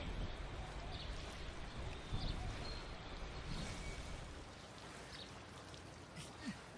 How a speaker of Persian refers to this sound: به جایی که حرف بزنن دارن آب بازی میکنن.